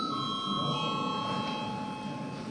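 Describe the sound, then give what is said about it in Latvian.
A parliament chamber bell in the Saeima rings steadily before a vote on a draft decision, one continuous bright electric tone held for the whole stretch without a break, with a low murmur of movement underneath. “Lūdzu zvanu.”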